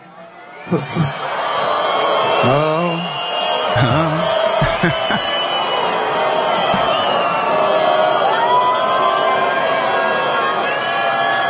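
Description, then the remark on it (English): A large crowd in Israel erupts in loud, sustained booing as Steve Witkoff, addressing it, mentions Prime Minister Benjamin Netanyahu agreeing to a peace deal. A dense roar of many voices holds steady for about ten seconds, with a few louder shouts early on and a voice briefly heard at the start. “Witkoff over the weekend, I believe this was on Sunday, addressing a crowd in Israel, and they start booing when he starts mentioning Netanyahu agreeing to this peace deal.”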